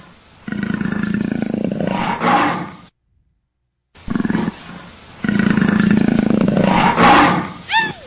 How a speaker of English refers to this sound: Uh-oh. The pandas run away when they hear the leopard roar and scatter in different directions.